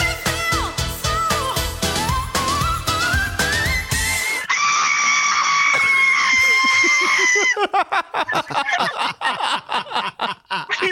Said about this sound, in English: It's just screaming. That sounded really good to me.